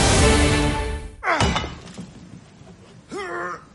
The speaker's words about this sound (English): When your husband's got his heart set on making the doer-upper open plan, enjoy every thudding second of it.